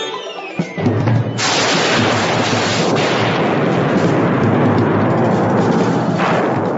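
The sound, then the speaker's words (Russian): A sharp explosive bang gives way to a sustained, loud roaring crackle and hiss as rockets packed inside a wooden horse burst and burn after its tail is set alight, in Don Quixote, with no voices. “Конь с грохотом подскочил в воздух, и Дон Кихот и Санчо, слегка опаленные, упали на землю.”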